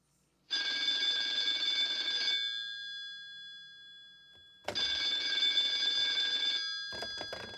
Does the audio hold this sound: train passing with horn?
no